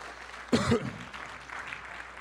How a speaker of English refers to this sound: Praise God. Would you just give the Lord another hand clap of praise?